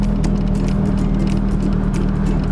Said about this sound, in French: Le temps d'une descente en direction de l'aérodrome, on se prend à écouter le ronronnement de cette voiture de plus de 70 ans, sans technologie ni capteur, pas de bip-bip pour les parkings non plus, ni de direction assistée